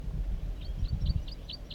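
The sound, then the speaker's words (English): A wild bird calls in a quick series of about six short, high chirps, evenly spaced, with bird 4-3 calling to the side, over a steady low rumble of background noise. “Wild Bird. And 4-3 calls to the side.”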